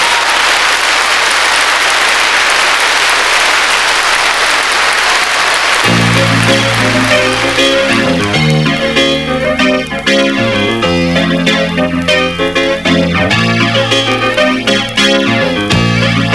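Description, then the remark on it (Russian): A live audience on a vinyl record being played roars and applauds in a dense, steady wash of noise for about six seconds before loud music kicks in and carries on over it. “Сейчас публика заорет.”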